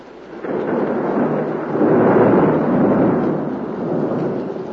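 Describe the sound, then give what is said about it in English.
A deep, sustained rumble of thunder from a thunderstorm with lightning rolls on for several seconds during a church dedication service, swelling louder midway and then easing slightly, with no voices present. “You know, it's the first dedication service I've ever been in with thunder and lightning.”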